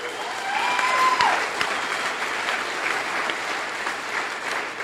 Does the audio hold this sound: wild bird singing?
no